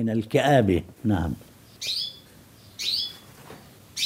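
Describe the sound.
A budgerigar chirps excitedly in short, bright bursts, three quick chirping phrases spaced about a second apart, following a brief stretch of someone speaking at the start.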